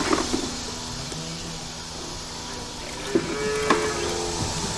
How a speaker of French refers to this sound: à l'étable pour la traite des vaches